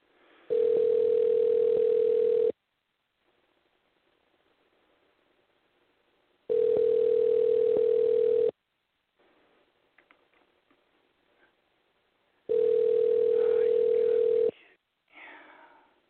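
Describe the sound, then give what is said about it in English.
An outgoing call to Juan Archuleta: the ringback tone sounds three times, each a steady two-second hum separated by a few seconds of quiet with faint background murmur, heard through a phone line. “So let's go ahead and try to give Juan a call and see what happens.”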